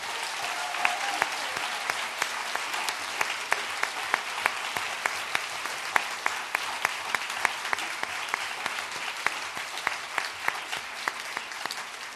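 An audience applauds steadily for about twelve seconds, dense clapping with many sharp individual claps standing out, fairly loud and sustained without any talking.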